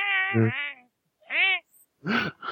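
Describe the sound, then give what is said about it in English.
A person meows and caterwauls like a cat, three drawn-out, wavering wails separated by short pauses, fairly loud, with no other sounds around them. “Probably hear someone meowing along with it. Caterwauling.”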